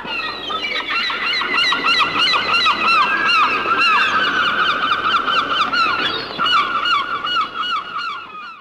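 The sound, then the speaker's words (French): A flock of herring gulls calls loudly and continuously, many overlapping squawks and yelps layered into a dense, raucous chorus that stays steady throughout. “C'est pas des mouettes, c'est des goélands.”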